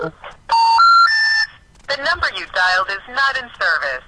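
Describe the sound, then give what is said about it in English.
A short run of telephone tones as a phone call is dialed to a number that is not in service, three steady electronic beeps stepping upward in pitch, loud, followed right after by a voice speaking in a clear, recorded-sounding manner. “So we'll start dialing the phone right now.”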